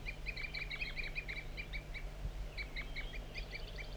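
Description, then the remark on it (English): A wild bird gives rapid, repeated high-pitched tooping calls in quick bursts, with a brief pause midway, over a steady low hum, frequently joined by another bird, 4-3. No one speaks. “Continues toop by the wild bird, also joined frequently by 4-3.”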